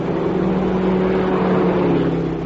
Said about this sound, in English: Both cars are proceeding at a speed in considerable excess of the legal limit. Approximately 3 miles north of the boundary, their progress is observed by two troopers occupying a highway patrol car.